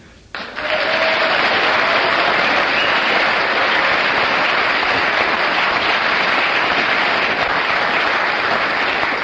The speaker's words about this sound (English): Well, you get 9 for your applause